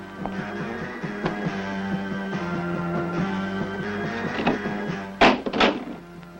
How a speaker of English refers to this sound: Close the door.